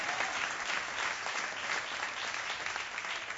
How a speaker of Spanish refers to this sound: Dele ese aplauso fuerte al Señor, mi amado hermano.